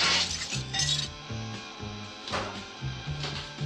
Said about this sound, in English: We jump straight back to Francis Dolarhyde in a Garda Devita, Tom Noonan effortlessly smashing this mirror.